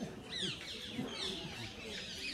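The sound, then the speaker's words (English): A flock of parrots calling overlapping, with shrill chirps and squawks sweeping up and down continuously, over a low murmur of background noise. “And you hear all the birds are singing, Brindadevi's parrots have come.”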